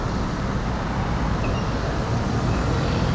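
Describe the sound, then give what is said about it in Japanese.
Steady, dense road traffic on National Route 1 past the Meguro-dori intersection, at a bus stop in Shirokanedai, Japan: a continuous low rumble of passing cars and heavier vehicles, moderately loud and unbroken, with no voices over it. “さっきの目黒通りの交差点、からさらにまっすぐ国道1号を進んできたんですけれども、バス停がありますね。”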